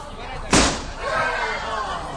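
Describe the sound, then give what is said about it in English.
A single sharp balloon pop bursts out loud during a group game of guarding balloons, cutting through a background of lively group chatter that carries on afterward. “Oh, there goes one.”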